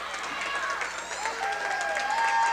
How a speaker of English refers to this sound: Alton Comet fans applaud that.